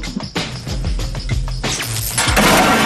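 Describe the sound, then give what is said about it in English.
A mighty car crusher crushing a little car: loud, continuous crunching and grinding of metal with deep groaning rumbles, sharp cracks and a burst of shattering glass near the end, with no voices. “Now, as you know, you've got 10 hours to get your machines built from the time that our mighty car crusher crushes that little car.”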